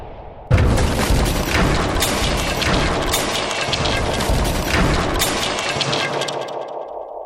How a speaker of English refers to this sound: Whoever's in that rocket ship that crashed out there is going to need help.